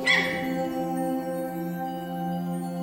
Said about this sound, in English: Like, you take calming music mixed out with a litter of puppies, and you can just inject that into my veins right now.